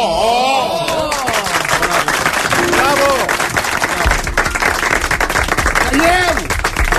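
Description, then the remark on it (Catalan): A crowd claps loudly, densely and steadily throughout, applauding before hearing a song dedicated to them, while excited voices shout and whoop over the applause. “Estem aplaudint abans de sentir-la, eh?”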